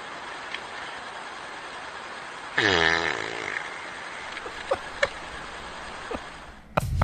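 A bear, caught on a wildlife camera outdoors, lets out a single loud, buzzing fart lasting about half a second, rising out of steady outdoor hiss, followed by a few faint scattered clicks and a brief rustle at the end.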